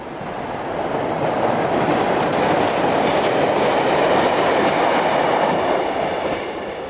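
A train rolls past on the rails, its broad rumble swelling in and then easing off over several seconds, with a faint rhythmic clatter of wheels on track.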